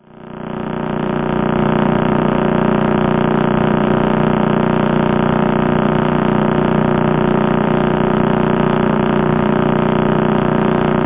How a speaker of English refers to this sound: But deep in the heart of it is actually the remnant neutron star, the centre of the star that exploded, collapses in on itself to make a pulsar. And this is a recording of that pulsar rotating about 30 times a second.